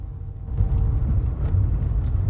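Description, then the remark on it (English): Steady low engine rumble and road noise heard from the back of a moving minicab, a continuous droning hum with no talking. “Tina's dressed in her prison officer uniform as she rides in the back of a minicab, handcuffed to a young offender.”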